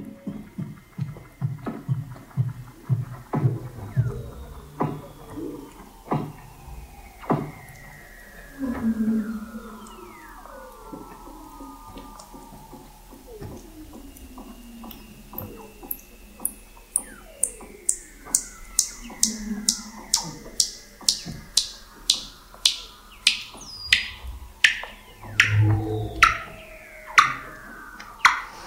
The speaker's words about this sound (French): Et je vous propose d'écouter quelques secondes pour le plaisir cette bande son, cette magnifique combinaison de sons de l'Antarctique. Ici, nous avons des phoques et des baleines.